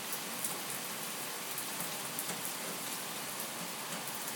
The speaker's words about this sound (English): It is pouring now. Absolutely, as I would say, it's absolutely wanging it down. Look at this. That is rain. I'm just going to let you listen to this for a minute.